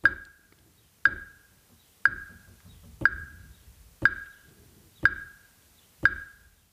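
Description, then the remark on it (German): Seven steady knocks on a wooden table edge at tempo 60, one per second, keeping time with sharp metronome clicks. The dull thumps and bright ticks repeat evenly with no voices. “Klopf mal das Tempo mit. Einfach auf der Tischkante.”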